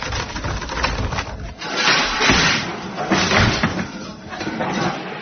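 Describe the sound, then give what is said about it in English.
A stuck lavatory door, blocked by junk from the lavatory roof, is shoved and rattled repeatedly, with loud thuds and scraping bursts coming in uneven waves over several seconds and no voices. “Hey, what's the matter with the door? Won't budge.”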